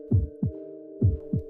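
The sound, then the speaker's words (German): A loud heartbeat sound effect thumps in two lub-dub pairs, deep and booming, over a steady low hum with no talking. “Ich hörte meine eigenen Gedanken nicht, so laut klopfte mein Herz.”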